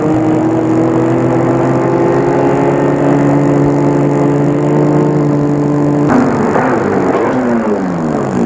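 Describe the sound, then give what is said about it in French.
A car engine drones steadily and loudly for several seconds as the car follows another car, then its pitch shifts and wavers near the end as it changes speed. No one speaks. “Il suit la voiture.”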